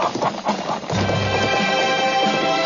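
A horse's hooves clip-clop in a quick run of sharp knocks, then a long, bright whinny rings out, loud, with no talking.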